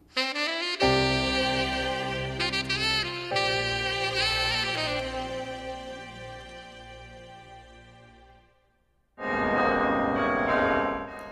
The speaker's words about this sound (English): Church bells rang out at the National Cathedral and around the country Wednesday to mark the moment 50 years ago when Martin Luther King delivered his I Have a Dream speech.